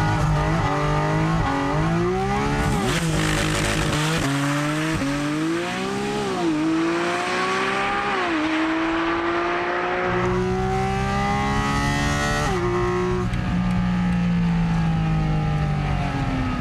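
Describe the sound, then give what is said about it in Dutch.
A Porsche sports car launches hard with launch control, reaching 100 km/h in 3.4 seconds, heard from inside the car. Its loud engine roar climbs steadily in pitch, broken by several quick gear shifts, and keeps pulling throughout without any voices. “3,4 seconden naar de 100, dankzij launch control.”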